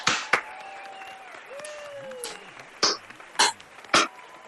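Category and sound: crowd, brief applause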